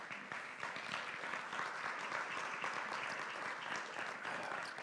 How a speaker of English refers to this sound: Give them a round of applause if you would, please.